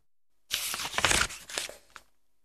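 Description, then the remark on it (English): Thin tissue paper being torn into shapes traced in chalk for a craft project, a crisp, crackly rip lasting about a second and a half with a few quick pulls and a final short tear, no voices. “Then I tore out all the shapes.”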